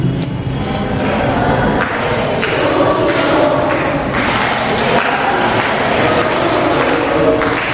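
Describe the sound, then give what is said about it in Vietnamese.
A church audience claps steadily to celebrate a child's birthday, a dense, continuous patter of many hands that stays fairly loud and even from start to finish, with faint crowd murmur mixed in. “Rồi, chúng ta một tràng pháo tay để chúc mừng bé mừng sinh nhật hôm nay.”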